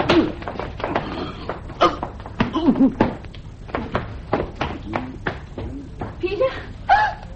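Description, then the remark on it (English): A door is pulled open after a bar is released, amid a run of sharp clunks and rattling knocks, with murmured voices and strained vocal sounds mixed in throughout. “Now pull the door open.”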